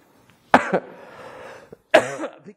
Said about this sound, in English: We've not had this before, have we? Oh dear. And it reminds us that, to be honest, the word's going to grow whatever I do, isn't it? If I cough all the way through this, the word is still, fortunately, under God, going to grow.